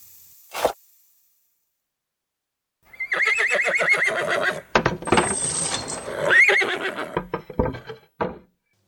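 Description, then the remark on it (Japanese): A brief snort, a pause, then a horse at a post town, having drunk its fill of water beside the coachman, lets out a long, loud whinny with a shaky, wavering pitch that rises and breaks before trailing off into a few huffing breaths. “馬は猫背の横で水を十分飲みためた。”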